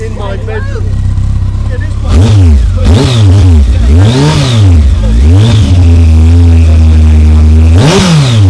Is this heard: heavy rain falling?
no